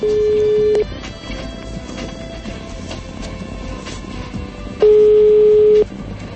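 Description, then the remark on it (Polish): A telephone line rings as a computer dials a listener's phone number: two loud, steady one-second ringback tones spaced about four seconds apart, with faint line hiss and murmur filling the gap between them. “Komputer wybiera i teraz już mamy numer telefonu.”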